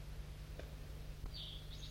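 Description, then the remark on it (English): Faint, high calls of a crossbill perched in a pine tree, a short chirp followed by a brief, slightly higher one, over a steady low hum with a couple of soft clicks earlier. “There's another crossbill around. It's perched in the pine tree and looking like it's interested.”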